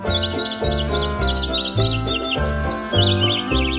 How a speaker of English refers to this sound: Now that your holiday shopping list is figured out, enjoy this bird singing jingle bells.